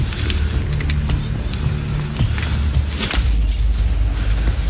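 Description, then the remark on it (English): Keys jingle and clink in a few quick metallic bursts as they are handed over, over a steady low rumble of background noise. “Just give me my keys. I'll be on my way.”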